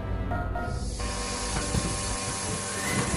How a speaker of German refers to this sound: Mit einem Zischen öffnete sich die Schleuse.